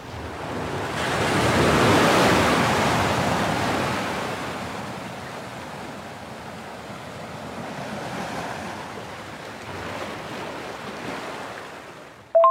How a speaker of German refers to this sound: Freue mich, wenn du weiterhin so ein bisschen Meeresrauschen rüberschickst übers Internet. Dann kann ich nämlich auch ein bisschen mit entspannen.